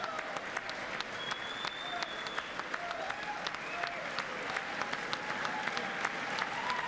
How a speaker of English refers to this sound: The crowd continuing to cheer.